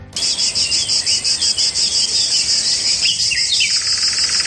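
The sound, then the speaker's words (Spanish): Loud, continuous chirring of cicadas in the summer heat, pulsing steadily throughout, with birds chirping and singing faintly in the background; no voices. “Pajaritos por un lado, las cigarras por el otro, el sonido de las cigarras que con el calor suenan y suenan mucho.”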